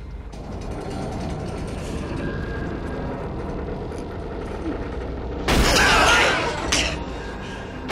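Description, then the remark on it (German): Inside a submarine, strained metal creaks and ratchets steadily under a low rumble, then a loud, harsh burst erupts, followed moments later by a second sharp crack as the hull bolts shear off under pressure. “Die Bolzen! Sie platzen weg!”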